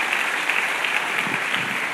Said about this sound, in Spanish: Dale otro fuerte aplauso de gloria a nuestro Dios.